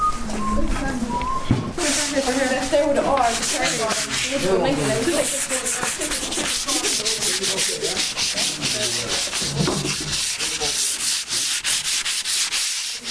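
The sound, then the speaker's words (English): Continuous hand sanding of wood by young people in a workshop, steady back-and-forth scratchy strokes that fill the whole stretch, with people's voices murmuring underneath. “Okay, we need to start the sand, guys.”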